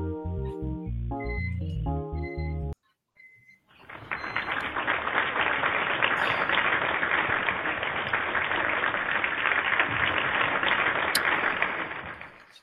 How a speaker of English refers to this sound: Thank you very much for that warm applause. It's a clip, you probably know that.